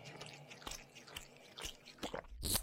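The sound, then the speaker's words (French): Wet chewing and biting as a creature with sharp teeth bites and crunches a person's toe, with several sharp crunches at irregular intervals, growing louder toward a final loud crunch. No one speaks. “Suce le précieux liquide et croque le doigt de pied.”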